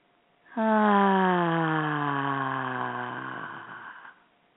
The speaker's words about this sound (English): So let's take some big, deep breaths.